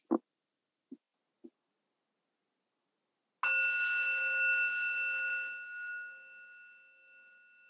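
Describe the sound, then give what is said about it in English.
Three soft, quick taps, then a single bell is struck once to mark a short break in a talk, ringing out loud and clear with a bright, sustained tone that slowly fades away. No one speaks. “I'm going to do what I was doing before when Anne was talking and ring the bell”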